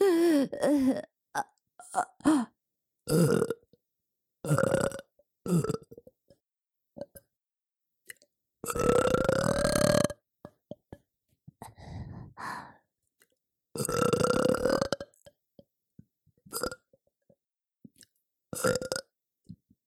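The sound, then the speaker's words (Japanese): A series of loud, close burps, some short and some long and drawn out, separated by pauses and a few soft clicks and breaths, with no talking. “おしっこゲップ最高です。”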